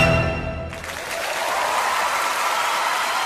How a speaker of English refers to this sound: Once again, some well-deserved applause there for … and their version, a lively version of The Star of the County Down